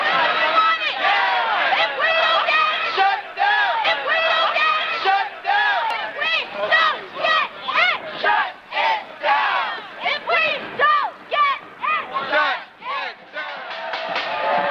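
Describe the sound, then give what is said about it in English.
A large crowd of marchers in a street protest chants together in loud, rhythmic bursts, many overlapping voices rising and falling in steady slogan-like phrases for the whole stretch. “Somebody's banging a pot lid on the second floor as the marchers go by.”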